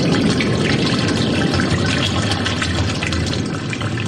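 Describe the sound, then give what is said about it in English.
A steady, fairly loud rush of running water, like a faucet left on, continuing unbroken and even for the whole stretch with no voices. “There's like... here's a faucet.”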